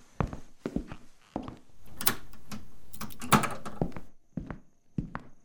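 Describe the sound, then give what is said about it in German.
A door is shut and locked: a series of sharp clunks and knocks, a sustained rattling scrape in the middle, then a few final metallic clicks. “Ich schließe mal lieber die Tür ab.”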